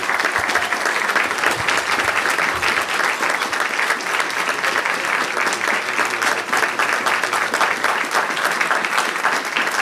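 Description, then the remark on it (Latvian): An audience, everyone present with tears in their eyes, applauds the song's author steadily for the whole stretch: a dense, even wash of many hands clapping at a fairly loud level with no pauses and no clear voices on top. “Visi klātesošie rasarā acīs aplausas velta dziesmas autorei”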